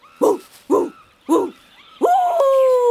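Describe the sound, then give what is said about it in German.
A person imitates a dog, giving three short barks at a steady rhythm, then a longer drawn-out yowling note. “Ich kann gut bellen.”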